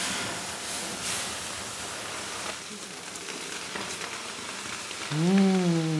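Steady hissing and crackling sizzle of water hitting hot sauna stones as a ball containing oil is set on the stones for a sauna infusion (Aufguss), with faint popping throughout; near the end a voice briefly hums or speaks over it.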